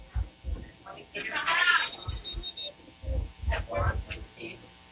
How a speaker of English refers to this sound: And whistle sound, wanting everyone to get back out on the field here. And here we go, Cleveland out, Rebels out here.